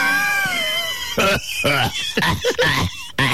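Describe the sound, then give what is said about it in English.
A voice imitates a smoker's cough: a thin, whistling wheeze, then a run of about five harsh, raspy hacking bursts, loud. “79 great tracks, including ….”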